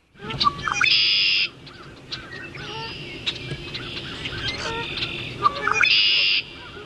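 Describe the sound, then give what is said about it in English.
A red-winged blackbird sings twice, each call ending in a loud, buzzy trill, while fainter geese honk in the distance and other birds chirp in the background. “Some honking in the background, but the primary bird, I think, was the red-winged blackbird.”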